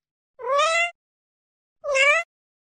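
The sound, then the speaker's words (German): A cat gives two short, bright meows separated by a brief pause, each rising slightly in pitch like a curious question, clear with no other sounds. “Oft mauzt sie auch kurz und hell, als ob sie fragen will, Nanu, was ist denn das?”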